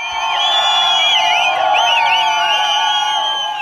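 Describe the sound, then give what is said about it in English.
A celebrating street crowd on Vali Asr Street, the main boulevard in Tehran, Iran, in the middle of the night after the nuclear deal with the United States and other world powers, makes a steady, loud din: many overlapping high tones that swoop and blare like horns and whistles, with shouts and cheers running underneath throughout. “Here was the sound on Vali Asr Street, main boulevard in Tehran, middle of the night after the nuclear deal with the United States and other world powers was finally done.”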